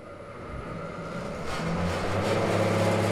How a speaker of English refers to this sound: From a few yards away, a woman and four small children watch a massive machine rumble to life.